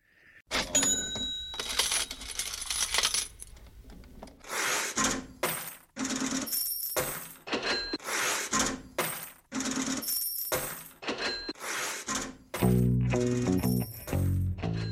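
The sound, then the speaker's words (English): A rhythmic loop of cash register rings, clanks and jingling coins repeats in sharp bursts, and near the end a deep bass line and band kick in beneath it as the rock song begins. “you sent me a recording of … …”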